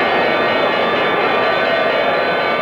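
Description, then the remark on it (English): The Wall Street stock exchange closing bell rings loudly and continuously without pause, its harsh metallic electric clatter filling the whole moment, with no voices heard. “When that closing bell finally rang on Wall Street today, nerves were frayed and stocks frazzled.”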